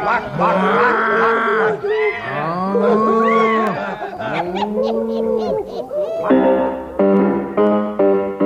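A cow moos loudly, about four long, drawn-out calls one after another, then a few shorter, harsher bellows to finish.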